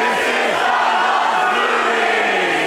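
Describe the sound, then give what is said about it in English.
A live audience at the Doug Loves Movies show at the Improv in downtown San Jose, California, yells and cheers loudly and continuously for a few seconds, a dense roar of many voices with one higher voice rising and falling above the crowd. “Yeah, see, you were gonna have a chance to yell anyway if you just waited.”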